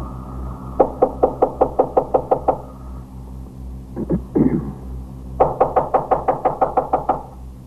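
Heavy, rapid pounding on a fourth-floor apartment door as police officers try to knock it in with axes, loud: a quick run of about eight blows, a brief pause with some scuffling thuds, then another burst of ten or so. No voices.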